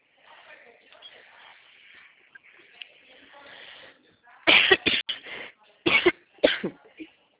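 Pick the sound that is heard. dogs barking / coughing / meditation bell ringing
coughing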